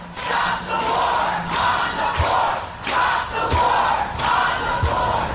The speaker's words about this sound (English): They're chanting, if you can't make it out, stop the war on the poor. And the march is crescendoing here, and they're really getting ready to start to move.